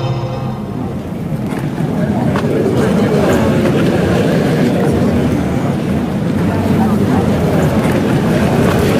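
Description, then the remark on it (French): A steady murmur of a crowd in Pointe-à-Pitre, Guadeloupe, with many indistinct voices in low conversation blending into a dense, continuous hum that stays at an even level throughout. “Alors là, vous entendez pas grand-chose, à part le bruissement d'une foule, des conversations à bas bruit, parce que...”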